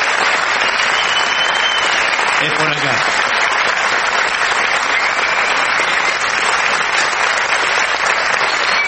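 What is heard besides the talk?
audience ovation applause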